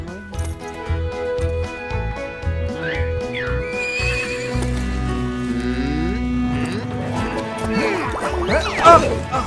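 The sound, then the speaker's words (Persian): Steady, rhythmic hoofbeats of horses about to be ridden plod along while horses whinny and neigh, with a louder shrill neigh near the end, over a busy farmyard background where cowboys are working and cattle are lowing. “مطمئن نیستم بتونم سواری کنم. من اصلا با اسبا برخورد نداشتم.”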